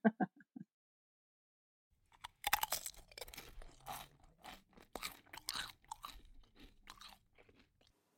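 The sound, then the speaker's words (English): Loud crunching of food being chewed, with a rapid series of brittle, crackly bites that continue irregularly for several seconds after a brief pause. “Thank you for listening to this crunchy episode.”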